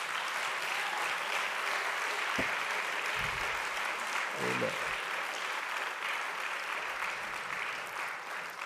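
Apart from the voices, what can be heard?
audience applause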